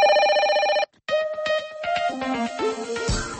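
A telephone rings for an incoming listener call on a radio call-in program: a sustained electronic tone, a brief pause, then a quick, bright melodic run of synthetic notes, loud with no talking.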